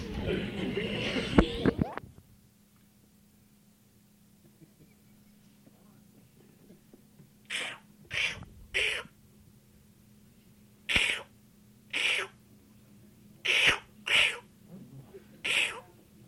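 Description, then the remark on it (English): Voices imitate seal calls together on a count of three, a run of about eight short, breathy barking bursts, mostly in quick pairs. They follow a brief loud jumble of noise and several seconds of near-quiet. “Seals make noises. Let's have an argument over it.”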